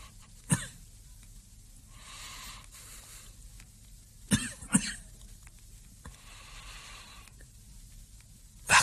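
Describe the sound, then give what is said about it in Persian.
A person coughs several times: one sharp cough, later a quick pair of hacking coughs, and another at the end, with faint raspy breathing in the quiet between them. “برای کمی سرفه کردن ظرف و اتاقتون جدا کردین.”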